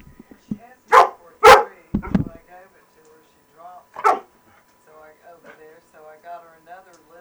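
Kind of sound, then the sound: animal, dog barking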